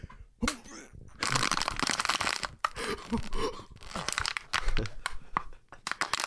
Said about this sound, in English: Crushed up my water bottle. I hurt. Now he crushed He did. Oh, wait, hear it. He crushed it.